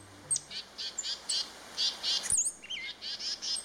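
A songbird chirps in a quick series of short, high-pitched notes with brief gaps between them, alone over a faint background hiss. A sharper, sweeping call cuts in midway.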